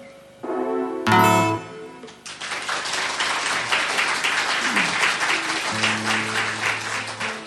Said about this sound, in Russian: Даже концерт. Присоединяемся к аплодисментам.